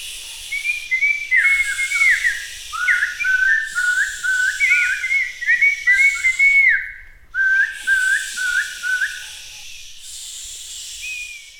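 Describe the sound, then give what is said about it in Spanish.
Birds sing in rapid, warbling trills, the bright whistled phrases running almost continuously with a brief pause midway, over a steady soft hiss like wind. “Estos niños en la finca se divertían mucho porque ahí habían muchos árboles muy grandes con un aire muy suave y el canto de los pájaros.”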